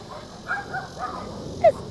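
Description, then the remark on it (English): Dogs bark a few times, with a couple of sharper, higher yips breaking through near the end over a faint background hum. “Yeah, it's the doggies. You see the doggies?”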